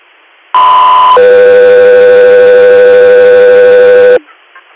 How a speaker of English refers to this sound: Guthrie Air, standby for tones.